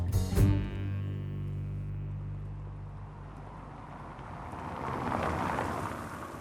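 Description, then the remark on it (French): A steady low roar of street traffic and construction noise in Brussels, at the European Commission, opening with a sharp clank and a brief ringing tone, then a continuous rumble that swells slightly toward the end. “Commission européenne, toujours ce bruit de fond de voitures de circulation et de chantier qui est propre à Bruxelles.”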